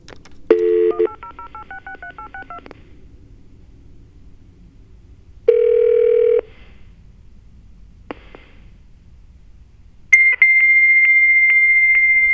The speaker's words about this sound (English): We got tones. Sounds like a fax machine.